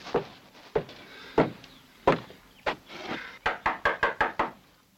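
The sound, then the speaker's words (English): Knocking on a wooden door, a few spaced raps at first, then a quick burst of six or seven rapid knocks near the end, fairly loud with no talking. “You better knock first.”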